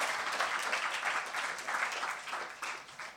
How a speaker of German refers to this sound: Dann an die Leute vom Netzwerk auch mal einen herzlichen Applaus, dass hier das WLAN und so funktioniert hat. Doch einigermaßen gut.